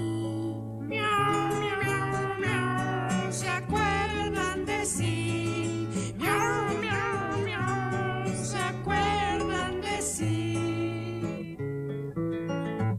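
A bouncy song with steady bass and melody, where a voice sings drawn-out, wavering meow sounds in a cat-like tone, repeated throughout over the music.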